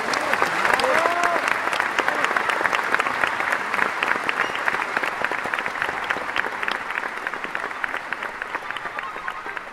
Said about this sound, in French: pour revivre le plus souvent possible le tonnerre d'applaudissements qui a récompensé leur performance dans le Grand Théâtre de Provence.